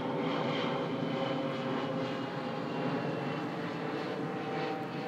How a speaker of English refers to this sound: Let that plane die away and then I'll stop this recording.